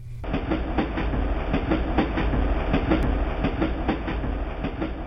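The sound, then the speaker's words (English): Steady rhythmic clickety-clack of a train rolling over rail joints on the ride back to Wilsonville, heard from inside a carriage with a constant low rumble and no voices. “On the train ride back to Wilsonville, Buck sat for a long time staring out the window without really seeing the world outside.”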